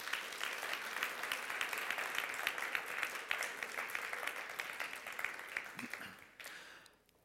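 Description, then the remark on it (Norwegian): Steady applause from a sizable audience at Karismakirken church, applauding the church's elderly members, many hands clapping densely at moderate volume for several seconds before tapering off and fading out near the end. “Kan vi ikke gi våre eldre en skikkelig applaus?”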